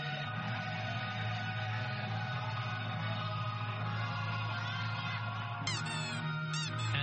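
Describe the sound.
A person imitates a duck, letting out a few nasal quacks near the end to entertain the audience while mixing humor with current affairs, over a steady, dense background hum.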